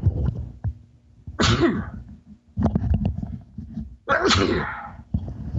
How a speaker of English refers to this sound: you know what I'm going to do? I'm going to sneeze.